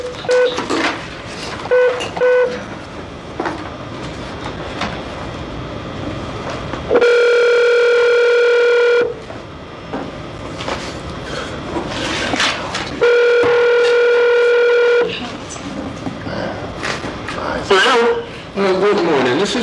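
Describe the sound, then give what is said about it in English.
An outgoing phone call is placed: the line rings twice, each long steady electronic ring tone lasting about two seconds with a pause between, while muffled voices and background chatter fill the gaps before and after. “Okay, before you get started, may I just go ahead and make this phone call?”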